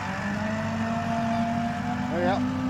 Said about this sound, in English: 200 horsepower. The tractor doesn't drive itself yet, then? No, and that's not far off. It lifts out at the end of the field. And you can see it's a really heavy machine, five and a half ton, into the soil.